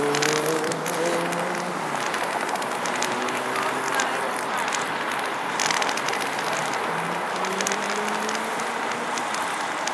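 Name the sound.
truck driving past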